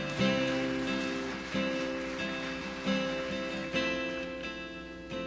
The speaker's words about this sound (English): Let's go ahead and give them a hand clap. Yeah.